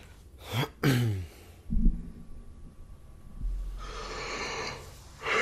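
A close, drawn-out yawn with a brief voiced groan at the start, followed by long breathy exhales and a sharp nasal intake at the end; no talking.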